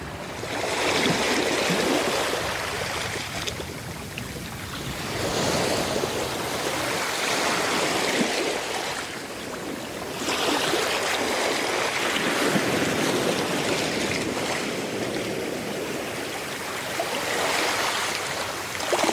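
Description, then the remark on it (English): Caribbean ocean water in hammerhead shark habitat rushes and hisses continuously, swelling and easing in slow surges every few seconds, steady, with no voices. “And hear the sound of Caribbean hammerhead shark waters.”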